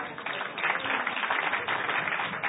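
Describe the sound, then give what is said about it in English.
A modest round of audience applause for the Wedding Supper of the Lamb, a steady patter of scattered clapping that holds at an even level for a couple of seconds without anyone speaking. “Now, that's a pretty lousy applause for the Wedding Supper of the Lamb.”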